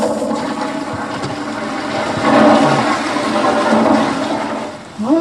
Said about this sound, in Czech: Můžeme nějak vysvětlit to, proč se nám chce na toaletu v momentě, kdy slyšíme téci vodu?